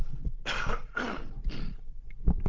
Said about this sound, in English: Apologies for that. Clear the throat.